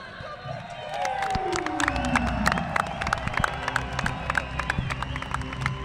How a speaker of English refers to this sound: Now there's only one rider left. And I'm expecting a massive, massive cheer for the world champion.